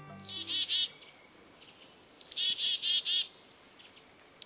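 High, thin chirping calls from a mixed foraging flock of chickadees, kinglets and a downy woodpecker in a temperate woodland come in two clusters of quick repeated notes, calling back and forth over a faint, steady background hiss.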